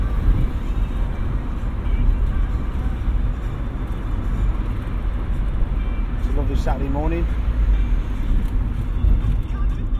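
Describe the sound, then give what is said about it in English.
Steady low engine rumble and road noise from inside a moving MG sports car under slightly overcast skies fill the whole clip, with a man speaking casually over the drone. “Driving my beloved MG sports car.”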